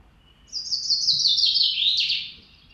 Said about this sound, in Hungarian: Ennek viszonylag egyszerű éneke van, a háttérben is egy másik erdei pintyet hallunk. Most. Ez a madár, amit hangosan hallunk, közel van. Most egy messze volt, megint a közelit halljuk